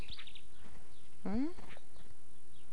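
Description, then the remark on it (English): Outdoors, a few short, faint bird chirps flutter at the start, then a single loud rising vocal call cuts in briefly before fading to quiet background noise. “Look at all those birds.”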